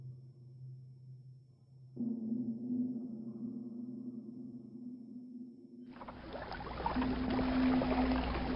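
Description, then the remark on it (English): Oars rowing a coracle across the sea: a low, steady drone gives way to louder, rushing water splashes in the final seconds, with no voices. “Found the oars. Excellent. Go, move. Heave! Ho!”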